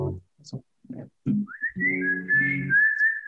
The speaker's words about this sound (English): I'm going to warm up the whistle. I have a whistle in a little while.